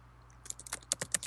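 Quick, irregular clatter of typing on a computer keyboard while searching online for a song, about ten sharp key clicks in a short burst after a brief pause, moderately soft over a faint low hum.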